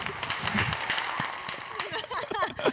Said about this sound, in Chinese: 拍手，快点拍手， 拍手拍手。